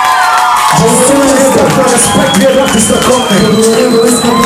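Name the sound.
audience cheering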